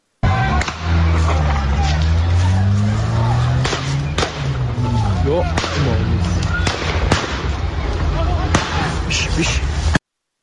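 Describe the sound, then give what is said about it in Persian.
Sharp gunshots crack out repeatedly at irregular intervals over a loud, agitated crowd of voices shouting and talking, outside Islamic Azad University, Tehran North Branch, where families have gathered over students held inside; the reports ring through the noisy scene. “بشنویم صدای تیراندازی رو.”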